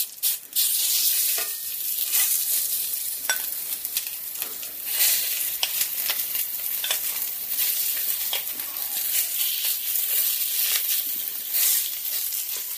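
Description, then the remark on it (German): Chili frying in hot olive oil: a steady, bright sizzling hiss full of sharp crackles and pops, holding an even loudness throughout with no voices. “Olivenöl ist schon ein bisschen sehr heiß. Jetzt geht's los.”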